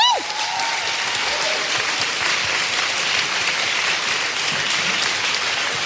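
An audience breaks into sustained, loud applause, a dense wash of clapping that holds steady for several seconds, with a brief descending tone at the very start.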